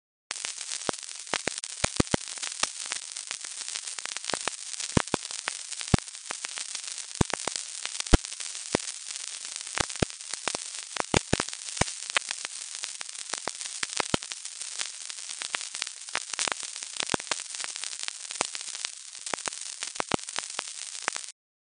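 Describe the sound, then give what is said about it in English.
Continuous sizzling, crackling static runs throughout, peppered with dense, irregular pops and clicks like frying bacon, steady and fairly loud with no voices. The sound is sonified internet traffic from three weeks of May 2020 lockdown. “Finally, here is 3 weeks of glorious May 2020 lockdown traffic. Enjoy in the knowledge that when you fry bacon, you may in fact be hearing bots and bad actors in the sizzle and the pops.”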